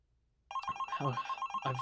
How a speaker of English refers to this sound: Oh God, the phone. Okay.